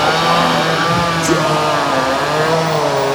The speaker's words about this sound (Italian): 120 decibel sono la media di un concerto heavy metal a 6 metri dal palco oppure una motosega a un metro esatto dal vostro orecchio.